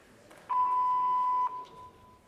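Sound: voicemail beep tone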